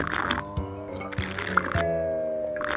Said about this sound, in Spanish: Y eche otras 3 copitas de tequila.